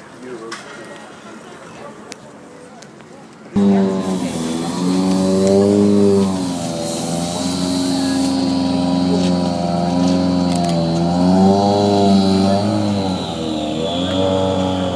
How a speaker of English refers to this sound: Heard the sound of Mikko Hirvonen's car pulling out of the service area, and very shortly we're going to hear the Ford Fiesta of Petter Solberg pulling away.